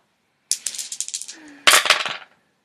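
Dice clatter and tumble across a hard surface in two quick bursts of sharp, rattling clicks, each lasting under a second and fading out, with no voices.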